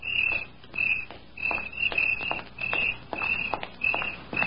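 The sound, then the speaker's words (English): Steady footsteps of a woman walking home at night at an even pace, each step a soft crunch, while crickets chirp in a continuous rhythmic pulse throughout. “He knew she would walk home that night, and he waited in the clump of weeds until he heard her footsteps.”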